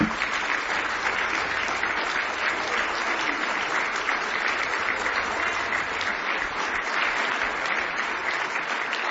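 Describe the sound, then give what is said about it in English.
A large church audience applauds steadily, giving a hand clap for God, dense overlapping hand claps forming a continuous, loud wash of sound that holds at a constant level throughout without a break. “Oh, He deserves one more good hand clap.”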